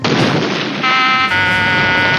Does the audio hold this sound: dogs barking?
no